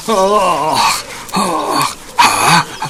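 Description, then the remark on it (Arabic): A fat dog guarding a farm growls and barks in three loud, drawn-out bursts separated by short pauses, each rough snarl rising and falling in pitch. “يا له من كلب سمين، طبعا يجب أن يكون سمينا، كيف لا وهو يحرس تلك المزرعة وصاحبها فيعطيه صاحبه طعاما شهيا جدا.”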